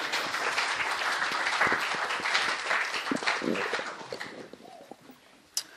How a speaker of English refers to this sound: Well, thank you all. I know we always have this, like, awkward time where we don't know, like, do we clap and thank them? So, yes, let's do that.